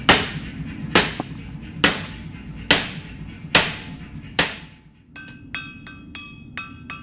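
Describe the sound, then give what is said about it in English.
A hammer pounds a glowing carbon steel rod by hand, shaping it into a pan handle, in slow, steady blows, about one a second, then shifts to lighter, quicker taps that ring with a bright metallic tone. No one speaks. “Once it glows, he picks up a hammer and starts to shape it by hand.”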